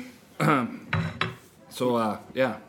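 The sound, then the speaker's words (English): Metal cutlery clinks and clatters in four short bursts as pieces are taken from a table, knocked against each other and dishes, with faint voices in the background. “You need cutlery. we'll steal from this table.”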